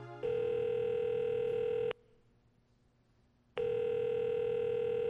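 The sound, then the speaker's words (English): A phone call to a grandfather rings and goes unanswered: two long, steady electronic ring tones separated by a pause of silence, clear, with no voices. “Come on, Grandpa, answer the phone. This is the third time I've called today.”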